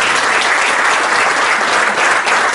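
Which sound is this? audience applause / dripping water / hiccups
audience applause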